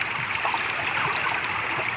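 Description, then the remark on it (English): Underwater recording of a glacier-fed river in the Olympic Mountains with stones tumbling downstream, a steady rushing wash dense with tiny clicks and knocks, continuous and fairly loud throughout, with no voices. “And when you listen underwater to this river, you can hear the stones moving downstream It's very musical.”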